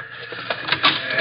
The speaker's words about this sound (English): You open that door. Open it!